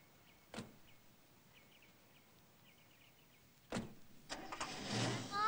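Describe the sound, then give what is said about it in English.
A car door thumps shut several yards away as a chauffeur holds it for a passenger getting into the back seat, then a second solid slam a few seconds later, followed by a car rumbling off. Faint bird chirps linger in the quiet background. “the chauffeur holds the door for Jameson as he gets into the back seat”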